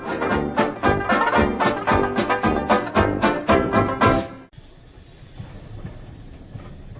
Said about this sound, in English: We're not quite sure what led us to spend 19 days on an uncomfortable, agonisingly slow Czech train.